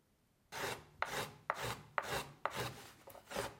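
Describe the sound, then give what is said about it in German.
A hand tool scrapes rhythmically across wood in about six steady, broad rasping strokes, each a bright hiss with a sharp start, after a moment of silence. No one speaks. “Das Holz gibt sich zu erkennen durch das Werkzeug. Das heißt, hinzuhören auf die Art der Eigentöne, auf das Rauschen, auf die Werkzeuggeräusche.”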